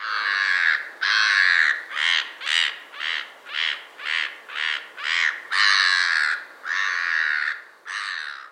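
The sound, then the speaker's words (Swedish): A black-headed gull gives a hoarse, laughing call: a loud run of about a dozen raucous squawks, drawn-out at the start and end with quicker choppy notes between, and no voices. “Allt är roligt när man är skrattmås.”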